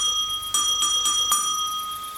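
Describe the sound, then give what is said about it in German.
A small golden brass bell beside a house door, used as a doorbell, is rung with four quick strikes, its bright metallic tone ringing on and shimmering between hits before slowly fading, with no voices. “Das ist eine Glocke, so wie bei anderen Häusern die Haustürklingel. Läute mal.”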